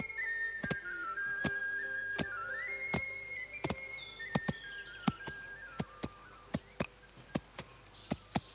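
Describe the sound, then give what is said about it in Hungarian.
A man whistles a jaunty march tune while workers with clubs tamp earth between two upright planks to build walls, the heavy tamping thuds striking in steady rhythm to the march, growing sharper and more prominent toward the end. “A két élire állított deszka között ő járt legelő tömőjével, valamiféle indulót fütyült, a többiek bunkóikkal az induló ütemére döngölték mögötte a földet.”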